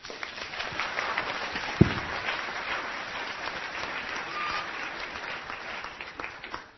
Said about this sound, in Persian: تشویق نداره؟